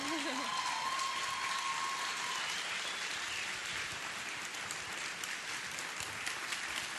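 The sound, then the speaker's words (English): A standing crowd applauds in a dense, steady wash of clapping that holds at full strength for about seven seconds, with a brief sustained whistle near the start and scattered voices mixed in. “Maybe you should save the standing and the applause for afterwards, because that's when you get the tip, right?”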